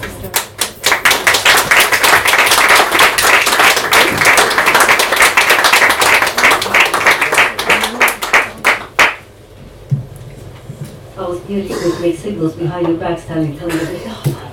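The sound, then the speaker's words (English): A crowd breaks into loud, sustained applause at the end of a poem performance, with dense clapping for about nine seconds, then it fades and a voice begins speaking. “Or can you muster a poet's, and indeed a poem's, most pleasurable epilogue, a rousing round of applause?”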